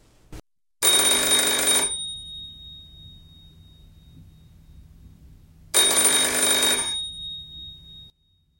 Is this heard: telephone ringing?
yes